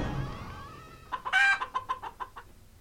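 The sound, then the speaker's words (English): A game's chicken-face sound effect, played as a chicken face is opened: a loud squawk followed by a quick run of rhythmic clucks, about six or seven short pulses, heard alone after a fading low rumble. “Face Let's keep 10, going here. Chicken face.”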